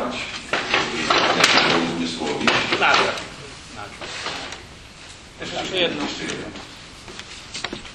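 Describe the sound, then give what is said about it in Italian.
Three chairs are dragged and set down, a busy run of scraping, knocking clunks over several seconds, with people talking in the background. “Tre sedie qui, per favore.”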